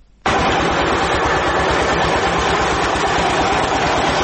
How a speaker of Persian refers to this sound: دستگاه‌های تولیدی فابریکه سمنت جبلسراج با وجود قدمت نزدیک به 70 سال هنوز هم چرخش فعالیتشان را دارند. فابریکه تولید سمنت جبلسراج از نظر تاریخی اولین فابریکه در افغانستان است.